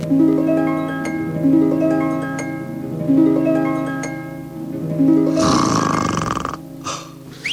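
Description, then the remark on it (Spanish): Loud, exaggerated snoring in a steady rhythm: buzzy, pitched rumbles roughly once a second, then a long harsh breathy snort near the end. No one speaks. “Ya se durmió.”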